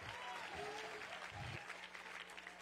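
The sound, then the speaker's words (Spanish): An audience at an evening service breaks into loud, sustained applause at the preacher's call, dense overlapping clapping that stays steady for the whole stretch, with faint voices and cheers mixed underneath. “Ay, gloria a Dios, de un aplauso fuerte, vienen a pactar en esta noche.”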